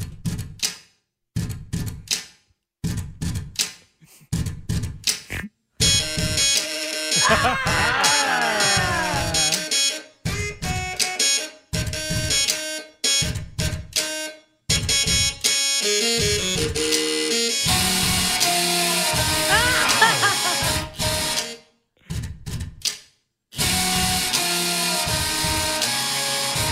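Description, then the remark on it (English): Buzzing electric motors and clacking typewriter keys play together as a mechanical tune, performed by one man on an electric toothbrush, an epilator, a credit card machine, three typewriters and a ladyshave razor. It starts with rhythmic taps and swells into dense whirring, pitched drones and rattling clicks, with no one speaking. “For no apparent reason, that's a guy who used an electric toothbrush, an epilator hair removal system, a credit card machine, 3 typewriters, and a lady shave razor to play”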